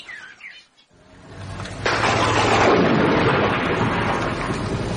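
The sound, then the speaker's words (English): A few bird chirps, a brief hush, then rain starts to fall, building quickly into a loud, steady downpour with a low rumble underneath. “I see it's coming on to rain at last.”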